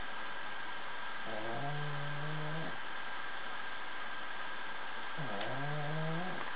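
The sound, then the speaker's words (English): A female dog snores twice, each a drawn-out, droning breath lasting over a second, spaced a few seconds apart over a steady background hiss. No one talks. “Your dog is snoring.”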